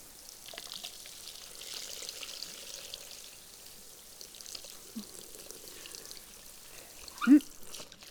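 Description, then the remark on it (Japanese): A soft, steady trickle of water poured to rinse soap foam off a body runs for several seconds, faint, ending with a brief vocal sound near the end. “きれいに泡を落としてと、あ、体の泡も落としちゃうね。”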